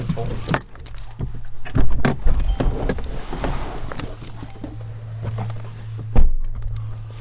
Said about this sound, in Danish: Lad os stige ud af bilen, så kan du være, jeg kan få dig til at synge den, mand.